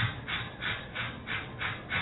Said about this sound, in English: Well, at Beth Israel Hospital, we explain to you that natural childbirth is a miracle, and it hurts. Now, when you go into labor, you must breathe like so.